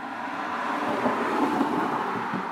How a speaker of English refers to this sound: Is that one coming? That's a jeep. Oh. It's because if I wasn't here on my own, I might have tried to stop it. I don't think I would. It doesn't sound that much like a bus. Just a bit.